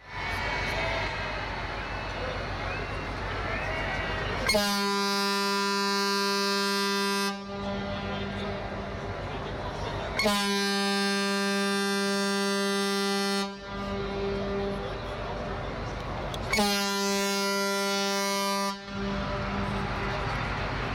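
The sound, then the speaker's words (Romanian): Three long, loud blasts of a deep horn, sirens greeting a sailing ship as it enters Almería, each lasting a few seconds with steady harmonic tone, separated by short gaps filled with a constant background rumble of engines and wind. “Așa am intrat în Almeria, în sunet de sirene și ovațiile populației locale”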